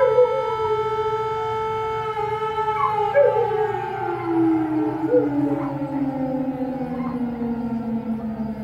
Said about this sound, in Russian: Ну, производило очень сильное впечатление. Я показывала ребятам, говорю, смотрите, у вас тоже вот так вот. Или только мои собаки местные воют на сирену, они подхватывают ее.